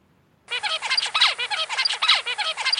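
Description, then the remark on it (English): A juvenile songbird raised in a quiet room sings alone after a brief silence: a quick, steady run of buzzy, harmonically rich syllables with sweeping notes, fairly loud and repeated without pause. “This is an example of a juvenile from that quiet room.”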